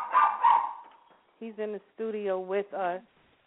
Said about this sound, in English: As you can hear in the background, I have a dog, and he's in the studio with us.